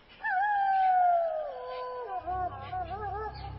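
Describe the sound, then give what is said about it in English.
Wolves howl on a dark prairie: one long, drawn-out cry slides slowly downward in pitch, then several wavering howls overlap as a low rumble sets in underneath, fairly loud and sustained throughout. “Then Laura heard a long, frightening cry from the dark prairie.”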